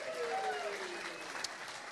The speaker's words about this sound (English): Let's have a big round of applause.